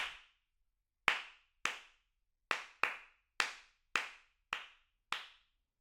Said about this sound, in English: Test 2, clapping back rhythms. I shall count the pulse and then clap a rhythm. You clap it back immediately after you hear it. We shall do this with 4 different rhythms.